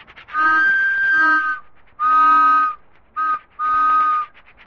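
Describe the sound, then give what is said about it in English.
The whistle of a little toy train, painted with every car a different color, toots four times as it comes in: a long blast, a medium one, a quick short toot and another medium blast, each a steady, reedy, mid-pitched chord with no voices. “Clickety Clack and Bugler Murphy are coming in on the little toy train.”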